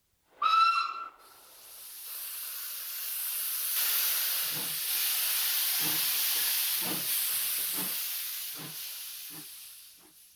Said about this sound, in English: Train.